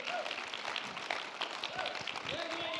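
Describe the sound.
An audience claps at a speaker's urging during a talk given in English with Spanish translation, a steady, dense burst of many overlapping hand claps that holds at a moderate level throughout, with a few voices calling out over the applause.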